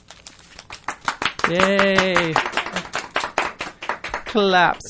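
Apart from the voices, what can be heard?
people clapping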